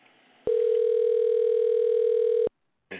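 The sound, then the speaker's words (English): A telephone rings on the line: one loud, steady two-second tone, then silence before a second ring begins just as the sound ends. “Two ringy dingies.”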